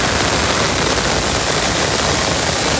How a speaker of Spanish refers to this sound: Es el sonido de la lluvia, que de forma bastante notable ha caído esta tarde en Santiago y que parece que poco a poco se está desplazando hacia el este.